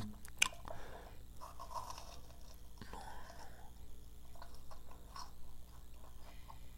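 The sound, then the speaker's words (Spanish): Someone bites into crunchy mozzarella sticks: a sharp crackling bite, then steady wet chewing and squishing, with a second crisp crunch midway. Fairly quiet, with no talking. “Y luego el sonido es increíble.”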